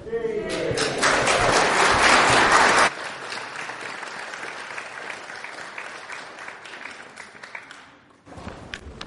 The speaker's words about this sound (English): Oh, that was brilliant. That was absolutely brilliant. I think, yeah, let's give them another round of applause, everyone.